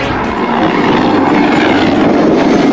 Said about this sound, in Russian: Тут в аэропорту война полным ходом. Стрельба, дым, вертольоти, істребітелі. Неподалік Донецького аеропорту постріли та вибухи. Над литовищем кружляють гелікоптери.